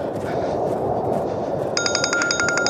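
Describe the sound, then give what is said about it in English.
A phone rings with rapid, trilling electronic pulses that start partway through, fairly loud over a dense, noisy background rumble. “Damn it. Where's my phone now? Oh, it's Sissy.”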